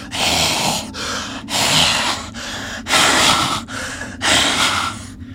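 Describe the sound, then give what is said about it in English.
A voice imitates raspy, labored breathing: about six heavy, rough breaths in a steady in-and-out rhythm, loud, with no talking. “you hear just outside the door of the stump, you hear raspy breathing.”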